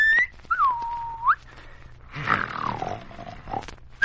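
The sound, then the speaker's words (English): A man asleep in a room whistles and snores: a thin, high whistle bends down and swoops back up, then gives way to a long, rough, rasping snore that rumbles on for a couple of seconds. No one speaks. “That isn't a bear growling. It's someone snoring and whistling in his sleep.”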